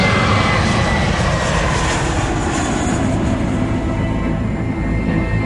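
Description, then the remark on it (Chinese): A loud, steady airplane engine roars continuously as the plane taxis on a runway, a dense rumbling drone with a hissing upper edge that holds constant throughout, with no voices. “不久，飞机滑行在跑道上，随着引擎的轰鸣声，他们的冒险正式启程。”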